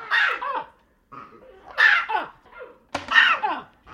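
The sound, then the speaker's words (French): Primate alarm calls from disturbed monkeys with white cheeks, a brown crown and grey bodies, adult males around 15-16 kilos: three loud, harsh barking cries spaced roughly a second and a half apart, each sliding downward into a raspy tail, with quieter calls in between. “Donc là, ce que l'on entend derrière, parce que ça continue de les perturber, c'est différents cris d'alarme.”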